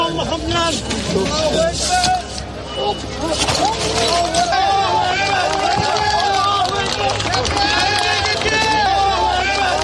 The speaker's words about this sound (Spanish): Son los aplausos de las decenas de bomberos y personal experto en rescates tras conseguir sacar con vida a este crío, cuyo cuerpo afortunadamente no presentaba lesiones de gravedad.